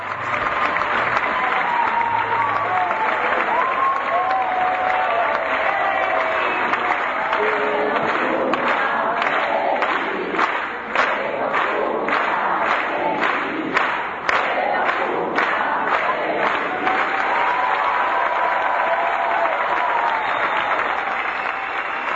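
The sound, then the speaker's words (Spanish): The audience at the Teatro Cervantes in Buenos Aires gives Uruguayan actress China Zorrilla a sustained ovation on her 90th birthday, at her final performance in Las de Enfrente, dense steady applause with cheering voices mixed in, continuous and loud throughout, with rhythmic clapping emerging toward the middle. “Esa ovación que se mezcló con el que los cumpla feliz, el público que la vio ese día en la obra Las de Enfrente en el Teatro Cervantes de Buenos Aires homenajeó a la actriz uruguaya en esa función que marcaba su retiro definitivo de la actuación.”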